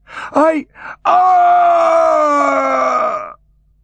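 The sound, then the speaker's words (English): A few short vocal bursts, then a single drawn-out, strained scream that sags slowly in pitch for about two seconds before breaking off, a voice acting out a dwarf's final scream petering off to a gargling rattle. “The dwarf dragged his final scream out, petering off to a gargling rattle.”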